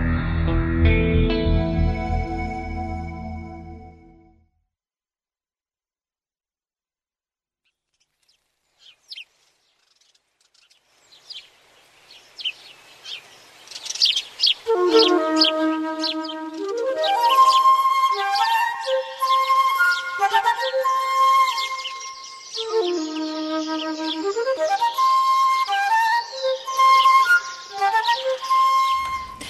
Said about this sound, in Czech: Zvuk ptičica koji nas vodi u prirodu, koji nas vodi u parkove.